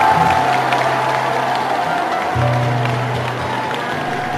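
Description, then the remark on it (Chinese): A large audience applauds steadily and warmly to welcome a performer in prison clothes onto the stage to sing, the dense clapping holding at an even level for several seconds over a faint low hum. “请以热烈的掌声欢迎比尔。”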